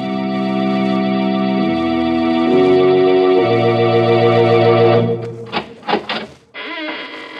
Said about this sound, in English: When you heard the sound of the squeaking door, it was exactly 30 seconds past the hour for murder.